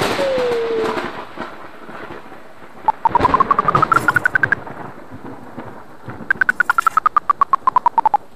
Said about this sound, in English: The command window is a small view of a larger map. The horizontal position of the command window is determined by the pitch of a clicking tone. Scroll the command window horizontally by pressing the A, E, and D keys.